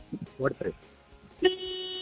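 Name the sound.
car horn honking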